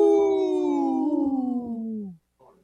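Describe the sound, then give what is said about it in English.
A group of people let out a loud, sustained wolf-like howl together during a radio broadcast, the pitch sliding slowly downward for about two seconds before cutting off, followed by a brief faint murmur. “you didn't howl with us, bro.”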